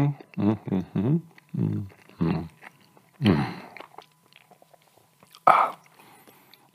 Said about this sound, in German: oh, muss einmal kauen, oder?